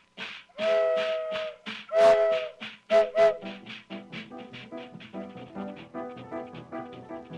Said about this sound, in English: Hear that whistle?